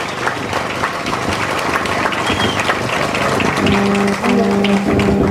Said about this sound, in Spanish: Un fuerte aplauso con nuestro compañero.